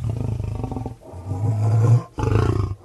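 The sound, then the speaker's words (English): A big cat roars in three loud, deep, rumbling bursts, each lasting under a second with brief pauses between. There is no talking. “There are 11 big cats back here, ranging from a 10-week-old baby lynx to the Guinness World Record holder for biggest feline in the world.”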